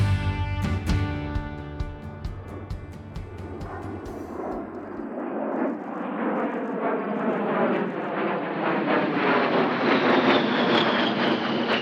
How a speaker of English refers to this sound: Since 1976, that sound, A-10s flying in and out of Davis-Monthan Air Force Base, has become a familiar sound, but it's going away.